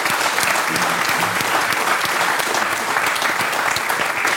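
An audience claps steadily throughout, a dense, even wash of many hands at a fairly loud level, with no voices standing out above it.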